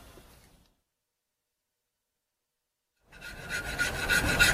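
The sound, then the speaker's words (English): After a brief faint noise and a few seconds of silence, a farrier who has just fitted a shoe finishes off by rasping a mare's hoof in harsh, gritty, steady strokes that grow loud and bright until the end. “Got the shoe on no bother. I'm just finishing off.”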